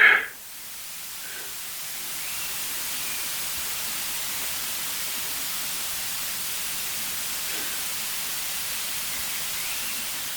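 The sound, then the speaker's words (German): Wind rushes steadily and evenly for about ten seconds, a continuous airy hiss with no gusts or voices, after a brief soft bump at the very start. “Wir hören Wind rauschen, das war's.”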